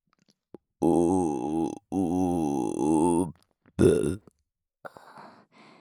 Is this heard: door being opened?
no